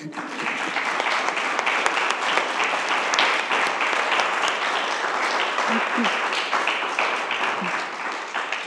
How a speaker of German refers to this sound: Ich denke, sowohl Kirchenpflegerinnen und Pfleger als auch diese wunderbare Musik haben einen Applaus verdient.